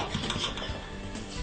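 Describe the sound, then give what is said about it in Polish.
A knife dices beets into cubes on a cutting board for borscht in a quick run of repeated taps over a steady background hiss, with no one speaking. “Połowę buraczków kroimy w kostkę.”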